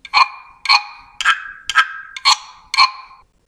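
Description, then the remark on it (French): A resonant percussion tube is rubbed in six even strokes, each a short rasping scrape that rings into a bright, hollow tone, repeating at a steady rhythm with no voices. “Que nous pouvons aussi frotter.”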